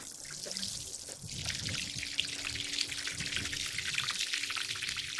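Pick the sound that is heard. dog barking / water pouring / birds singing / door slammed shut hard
water pouring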